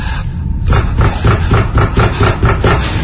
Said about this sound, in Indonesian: Suara pintu yang digedor itu makin lama makin kencang dan tidak bersahabat. Seakan-akan memaksa aku untuk cepat-cepat membuka pintu dan keluar dari kamar itu.